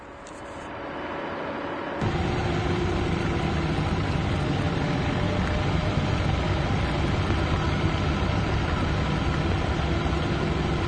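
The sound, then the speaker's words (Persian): A police Land Rover's engine drones steadily as it drives along a snowy mountain road, a continuous low rumble with broad road noise that jumps louder after the first two seconds and then holds even. No one speaks. “ماشین لندروور کلانتری توی جاده برفی و کوهستانی در حرکته.”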